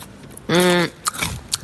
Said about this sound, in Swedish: Ja, men sitt inte och smaska vad du än gör. Alltså, det är som att du liksom tvångsmässigt börjar smaska precis när vi trycker på rec. Då sitter du och pratar helt vanligt. Men, den här gången gjorde jag faktiskt det med flit.